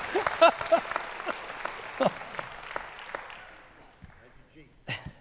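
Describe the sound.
An audience claps in a dense, steady burst that gradually thins and fades over several seconds, with a few voices and shouts mixed in toward the end.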